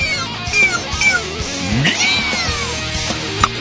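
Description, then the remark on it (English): Several high, thin kitten meows in quick succession over a constant busy background hum with a few sharp clicks. “All right, here's another kitten we're going to throw off a bridge now.”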